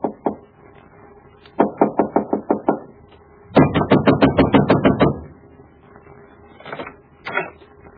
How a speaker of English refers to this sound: Why were you pounding on the door? You frightened the children.